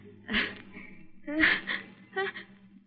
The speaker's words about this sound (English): Gesundheit. You're not catching cold. Oh, no. It's the sun. It always does that to me. I always sneeze exactly twice, and then I'm all through.